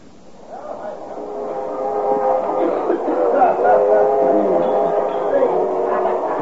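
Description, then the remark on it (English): Busy train club car ambience: a steady rumble and hum of the moving train mixed with a dense murmur of many overlapping voices, continuous and fairly loud throughout. “Of a noisy spot you got here, bud. Club car's always a popular place, sir.”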